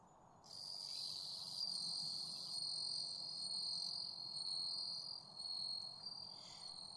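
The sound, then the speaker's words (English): A steady, high, clear insect trill rings out continuously for several seconds, the bell-like chirping song of a bell cricket (suzumushi), an autumn insect, alone over a soft low background hum. “The bell cricket has a special song, high and clear, and, well, bell-like.”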